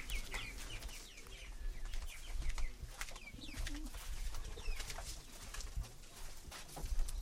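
Six pigeons coo in low, soft murmurs in an aviary, with scattered bird chirps and a constant low rumble in the background. No one speaks.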